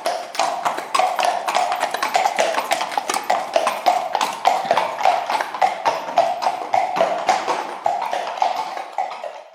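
A white horse coming to drink at a stream: its hooves clip-clop in a steady, brisk rhythm, with sharp hoofbeats repeating evenly for several seconds, with no talking over them.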